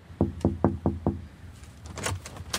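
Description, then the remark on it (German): Five firm, evenly spaced knocks on the door of the Archiv Schreibende ArbeiterInnen, knocking because the doorbell is broken, each a low, solid thud, followed by faint rustling and shuffling movement. “Da die Klingel kaputt ist, muss angeklopft werden.”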